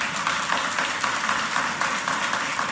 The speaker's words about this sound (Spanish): Hay niños aplaudiendo, ya saben.